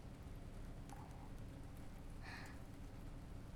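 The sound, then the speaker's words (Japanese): Steady rain falls in an even, unbroken hiss, fairly soft and constant throughout, with a couple of brief faint chirps briefly rising over it. “だから 雨、少しも弱まりませんし。”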